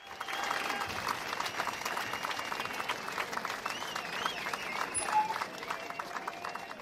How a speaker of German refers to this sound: Okay, vielen Dank für den Applaus. Das war Gunstberts Megashow.